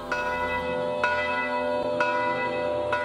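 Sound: large church bell ringing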